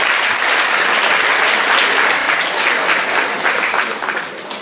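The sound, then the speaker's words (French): An audience claps steadily for a woman presenting projects, a dense wash of many hands at a fairly loud, even level that begins to thin and fade slightly toward the end. “on peut l'applaudir.”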